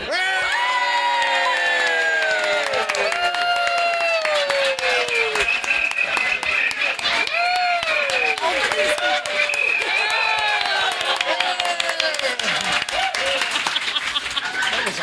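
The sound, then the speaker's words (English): On a count of three, an audience at a talk erupts in loud, sustained cheering, shouting and laughter with clapping mixed in, many voices rising and falling in overlapping whoops for about fifteen seconds. “And to wake everybody up, we're all going to cheer and laugh and be really loud for like 5 seconds.”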